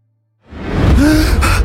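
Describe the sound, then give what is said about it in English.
A man gasps himself awake: a sharp, startled gasp erupts after a moment of silence, a loud breathy intake with a brief rising vocal catch, followed by rough, noisy breathing. “Duncan gasped himself awake, and then drooled all over his chin and shirt.”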